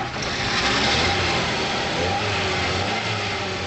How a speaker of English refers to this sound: 35-year-old Xie Lan revs up her off-road Jeep in preparation for another weekend trip to the mountains outside Beijing.